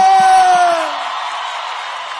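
An audience applauds and cheers in a dense, steady wash of noise, with a shrill whistle-like whoop at the start that slides downward and fades within a second, leaving the clapping to taper slightly.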